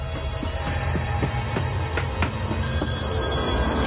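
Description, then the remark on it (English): A telephone bell rings continuously with a rapid, rattling trill, fairly loud, over a steady low rumble in the background. No one speaks. “Answer the phone. Answer the phone.”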